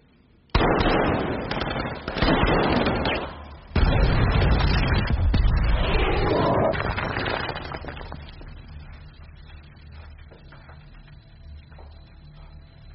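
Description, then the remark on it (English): A gas explosion in a sewer bursts out with a sudden, loud boom, then a second heavy blast a few seconds later, followed by crackling debris and a long rumbling decay that slowly fades. “There's a gas explosion, kid.”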